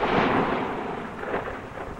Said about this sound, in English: Sounds like rain. No, there's not a cloud in the sky. It sounds like Walt's soundbox.